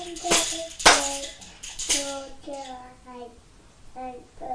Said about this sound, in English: Loud, darling. Clap your hands. Clap your hands. Clap. Clap your hands together.